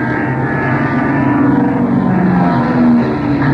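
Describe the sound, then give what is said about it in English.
A loud, steady roar of propeller plane engines drones overhead as diving planes zoom up, swelling slightly a couple of times as the aircraft sweep past, with no voices. “Something stupid in that patrol plane's really dying. They're heading straight for it. And they're diving the machine gunners.”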